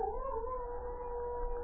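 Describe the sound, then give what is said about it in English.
A lone female wolf on top of a hill howls in one long, sustained note that wavers slightly in pitch, over a low background rumble, with no one speaking. “It's a wolf, all right.”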